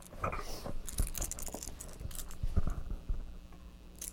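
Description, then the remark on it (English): Keys jangle and clink in short, irregular bursts as someone chews on them, with soft wet chewing and mouthing noises between the metallic rattles; no one speaks. “You put the keys in your mouth.”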